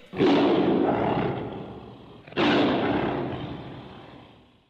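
Two loud, deep roars from a tiger, each bursting in suddenly and then trailing off over a couple of seconds, with no talking.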